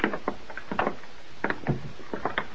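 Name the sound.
door being opened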